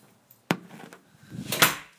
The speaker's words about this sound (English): Alright, I threw the door open. I promised Daddy I wouldn't lock him out. He didn't bring his house key with him.